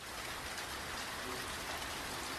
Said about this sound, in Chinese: 小雨点说话，沙沙，沙沙。